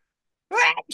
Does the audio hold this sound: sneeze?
yes